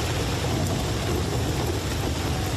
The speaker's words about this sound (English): The sound of thunder has taken over the London skyline as tourists in London's Camden neighbourhood ran for shelter as rain poured down.